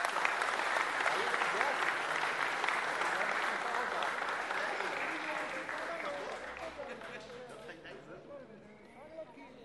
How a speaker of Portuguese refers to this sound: Eu queria pedir uma salva de palmas aos pais que trouxeram crianças ali. Pedir um aplauso aí.